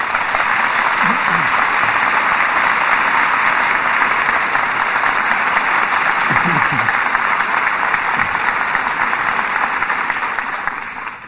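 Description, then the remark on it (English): Sustained applause from a radio drama's studio audience for the evening's stars, Humphrey Bogart and Walter Huston, a dense, steady wash of clapping that holds at full strength for about ten seconds before starting to ease off at the very end. “For drama that rates the applause of this audience, our thanks go to this evening's stars.”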